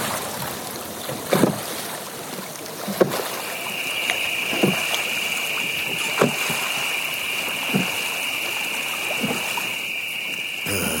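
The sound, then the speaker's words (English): A rowboat crosses the Neva river at night, moving through calm water, oars dipping and splashing in a slow, steady rhythm about every second and a half, while a thin, continuous insect-like whine hums in the night air. “However, on one of these occasions, he was crossing the river at night.”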